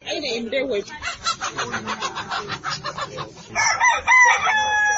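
Poultry squawk and cluck in a dense, overlapping chorus at a poultry fair in Tillabéri held for the Ramadan festival, with a rooster crowing in loud, rising, harmonic calls toward the end, amid a busy crowd of men and women jostling to buy supplies, murmuring underneath.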